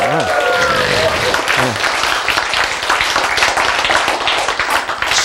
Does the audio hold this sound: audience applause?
yes